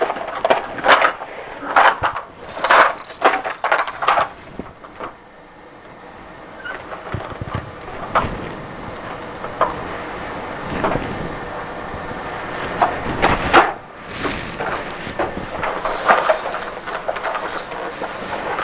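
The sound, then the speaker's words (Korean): A toy train carrying four toy people clatters along into a toy house, its wheels rattling and clicking in uneven bursts, loudest at the start and again midway, with no one talking. “부릉부릉 기차가 집 안으로 들어갑니다.”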